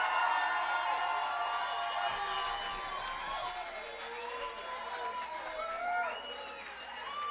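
A crowd in Gainesville cheers and applauds performers at a live music event, loudly and steadily, with shouts and high whoops rising over a dense wash of clapping for the whole stretch.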